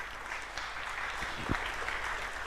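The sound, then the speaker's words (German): A crowd applauds for a stage curtain and the man in an orange T-shirt, dense overlapping claps forming a continuous wash of sound at moderate volume, with no voices standing out. “Klatschen.”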